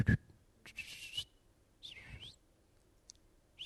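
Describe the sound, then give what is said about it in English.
Birds chirp and sing outdoors in a few short, bright phrases separated by brief pauses, with faint background ambience and no talking. “They're always there, always tweeting, always singing.”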